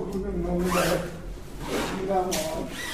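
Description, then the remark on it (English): Health workers pull the heavy zipper of a body bag holding a corpse closed in two long, rasping strokes, with a low murmur of voices underneath. “The health workers lay the corpse in a body bag and zip it up.”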